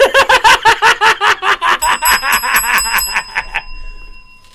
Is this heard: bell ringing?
yes